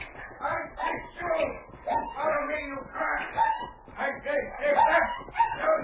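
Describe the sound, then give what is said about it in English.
A puppy being beaten yelps and whimpers in distress, a steady run of sharp, high cries and whines repeating throughout, prominent. “Listen, that sounds like a dog. Either someone is beating it or is caught in a trap.”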